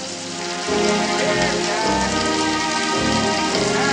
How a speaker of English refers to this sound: She throws her cigarette away and tears down the sidewalk through the heavy downpour.